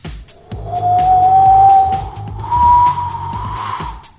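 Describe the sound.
Someone mimics howling wind with their voice: a loud, sustained wail that slowly rises in pitch, dips, then swells again, over a rough, breathy rumble with no other talk.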